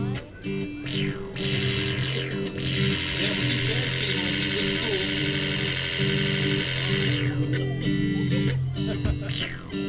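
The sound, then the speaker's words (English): Overlapping electronic beeps and buzzy synthesized tones, set off by kids wearing grounding bracelets playing If You're Happy and You Know It, Make a Beep, sound almost continuously, their pitches stepping up and down as several notes are set off at once, with a dense, distorted, slightly chaotic texture. “All right, we're going to do If You're Happy and You Know It, Make a Beep.”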